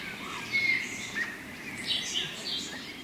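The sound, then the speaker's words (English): Yellow-rumped warblers and western tanagers, which winter in western Mexico, calling on a winter morning on hotel grounds in Oaxaca, Mexico: scattered short, high-pitched chips and chirps, some overlapping, fairly soft over a steady background hiss, with no talking. “As you walk across the hotel grounds to your car, yellow-rumped warblers and western tanagers, northwest summer nesters that winter in western Mexico,”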